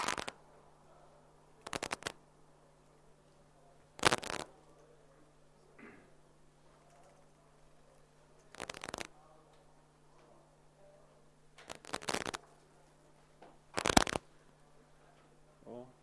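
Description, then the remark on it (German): Crisp computer mouse clicks, made while clicking together a GUI with a signal source producing a cosine or sine wave, come in short bursts every couple of seconds, separated by quiet stretches with only a low steady hum in the background. “Klicken uns mit ein paar Dings eine GUI zusammen.”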